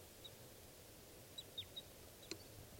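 A few short, high chirps from a lovebird flying over come in scattered bursts over a steady low rumble of background noise, with a brief sharp call near the end. No one speaks.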